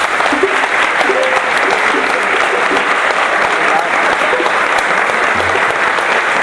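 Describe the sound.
A crowd at a samba gathering applauds the old guard of the Camisa Verde e Branco samba school, who wear green-and-white shirts; a dense, even wash of many hands clapping at constant loudness for several seconds, with faint voices murmuring underneath.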